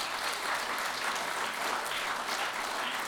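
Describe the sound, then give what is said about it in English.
An audience bursts into steady, sustained applause, many hands clapping together in a dense wash of sound that holds at an even loudness for the full three seconds, with no voices over it. “So everybody give them a round of applause for doing that.”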